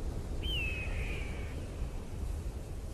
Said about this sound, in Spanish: Eso que suena parece un pájaro. Y al elevar la mirada hacia el cielo azul, observas que es un águila que sobrevuela por el desierto, extendiendo sus grandes y plumadas alas.